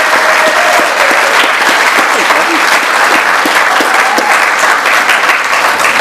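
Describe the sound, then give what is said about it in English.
Sustained applause from a large audience at an Oklahoma region Narcotics Anonymous convention, for the region and convention committee's 39 years, fills the space: a dense, steady wash of many hands clapping loudly and continuously without a break. “And can we give the Oklahoma region and the convention committee a round of applause for 39 years?”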